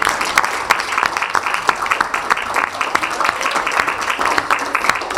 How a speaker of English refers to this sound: So they deserve a round of applause, and they deserve it.